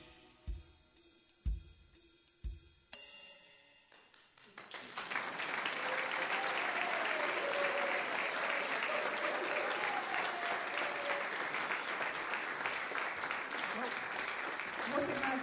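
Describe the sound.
After a few soft thumps and a brief pause, an audience breaks into loud, sustained applause that swells and holds steady, with scattered cheers and voices mixed into the clapping, following a performance of a Christmas worship song.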